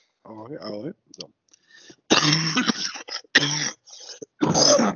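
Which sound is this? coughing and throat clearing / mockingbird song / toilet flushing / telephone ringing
coughing and throat clearing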